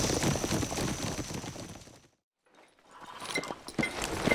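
Horse hooves clip-clop steadily, break off into a brief silence midway, then resume with a slightly lighter, busier rhythm. No one speaks.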